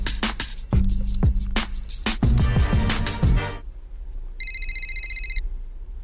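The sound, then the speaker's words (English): A burst of clattering, rattling noise fades out, then a phone rings once with a bright electronic trill lasting about a second, clear, an incoming call for Jalen Rose. No one speaks. “I think you're getting a phone call.”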